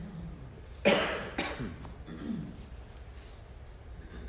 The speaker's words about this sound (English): My throat gets raw easily. So if I wind up kind of coughing a little bit, it's just because my throat is really dry.